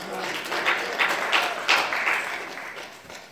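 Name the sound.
sparse applause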